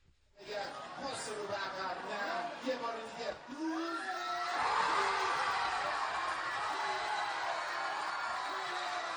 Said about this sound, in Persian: فریاد شادی هواداران تیم ملی فوتبال کشورمون در لبنان.